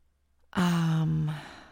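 After a moment of near silence, a single loud, close breathy exhale with a voiced, sighing tone lasts under a second, then trails off. No one speaks.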